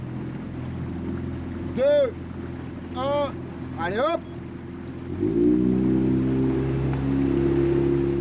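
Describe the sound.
A motorboat engine drones steadily on the water, its pitch rising as it revs up partway through, while a woman calls out a few short shouted words over it.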